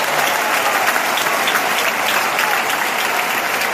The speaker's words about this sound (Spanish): Aplausos del público.